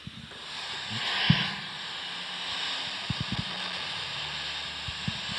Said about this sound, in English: When you tune the transmitter, what you have to do is you turn your radio on to a frequency where there isn't any other radio station. So you turn it on and you just hear static.